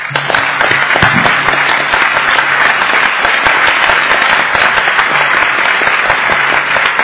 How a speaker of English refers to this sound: First of all, I think we need a round of applause for our moderator.